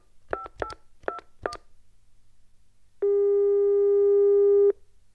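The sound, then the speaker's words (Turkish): Four quick keypad dialing beeps as a caller phones about a house for rent, then a single long, steady telephone ringing tone that sounds clearly for under two seconds before cutting off. No one speaks. “Seçin ve telefon edin.”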